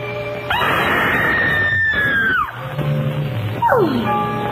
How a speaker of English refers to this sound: She fills the frame, and then suddenly emits a scream followed by an orgasmic sigh, and then purrs, screaming, relaxes me so.